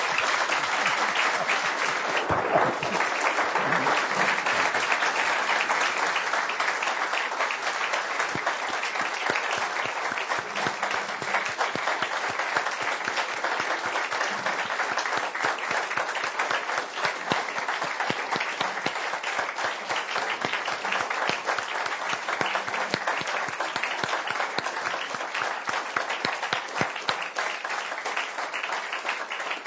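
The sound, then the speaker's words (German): Sustained applause from a large audience fills the whole stretch, a dense, steady wash of many hands clapping at once, loud and continuous without fading. “Das war der längste Applaus, glaube ich, den der Kepler so noch je erlebt hat.”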